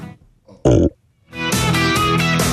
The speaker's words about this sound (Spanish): deja de eructar.